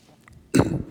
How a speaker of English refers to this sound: try not to cough, I'm draining.